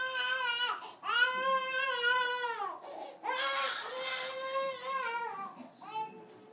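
A baby cries in a series of loud, sustained wails, each breath briefly breaking the sobbing before it starts again, with no one talking over it.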